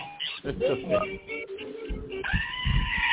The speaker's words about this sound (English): I have to tell you, I've the goat just has a cold right now, okay.